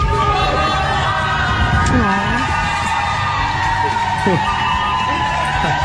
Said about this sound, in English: A high school teacher and varsity baseball coach in Saginaw, Michigan, was leaving a medical center after his 12th and final round of chemotherapy, only to find a huge group of supporters clapping and cheering for him.